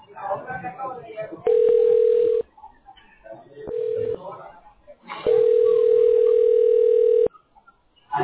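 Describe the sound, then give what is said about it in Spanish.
A steady, mid-pitched telephone ringing tone sounds over a phone line while calling a representative about benefits, in three loud bursts of uneven length, with muffled voices talking in the gaps between them. “En este momento estamos llamando al representante, solo permítame un minuto en línea.”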